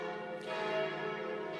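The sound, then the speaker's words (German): Church bells ring steadily during a lecture, said to ring every two minutes, their rich overlapping tones sustained and reverberant, sounding moderately loud and continuous with no talking over them. “Weil das ist immer eine Konkurrenz jetzt mit den Glocken.”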